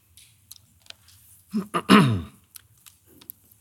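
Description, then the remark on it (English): A single loud, raspy throat clearing in a short double push from a speaker who has had a cough for a while and has a cough drop in their mouth, set against near silence with a few faint clicks before and after. “And you'll have to excuse my throat clearing, and I have a cough drop in here.”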